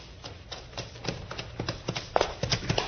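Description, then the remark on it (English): Quick, rhythmic hoofbeats of a horse galloping off along a trail, a steady run of thudding strikes that grows a little louder toward the end, with no voices over them. “Start that horse, Little Beaver.”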